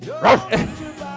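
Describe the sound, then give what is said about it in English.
A person imitates a dog barking, giving two short, loud, rough voiced barks in quick succession, followed by a quieter trailing vocal sound. “Come on, dog. Good try”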